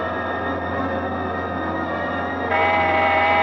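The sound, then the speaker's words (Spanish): A car horn blares in one long, unbroken honk as the driver of a moving car sounds it, loud, with the tone growing brighter and louder near the end. No one speaks. “¿Por qué tocas el claxon?”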